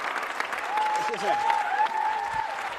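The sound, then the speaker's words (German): An audience claps steadily and densely throughout at the end of the Musical Check on the Checker Tobi show, a continuous wash of many hands with faint voices and a brief whoop or cheer mixed in beneath the applause. “Hier klatschen alle.”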